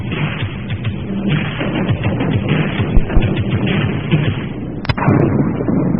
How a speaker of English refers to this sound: And with a clap of the thunder, here we go.